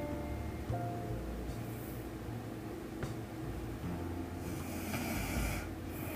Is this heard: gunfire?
no